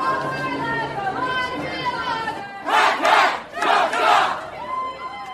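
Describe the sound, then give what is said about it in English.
First-year students of the University of Puget Sound in Tacoma yell the loggers' rhythmic group cheer in unison, with two loud, broad bursts of shouting rising over lower chanting voices. “it's a cheer you've probably heard any enthusiastic logger yell.”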